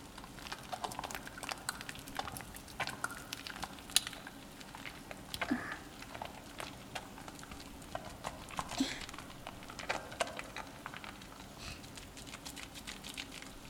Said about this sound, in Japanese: じゃあべったりくっついたこの髪泡立てていくわよ。 これぐらいあればいいかしら。 これを手の中で泡立てて、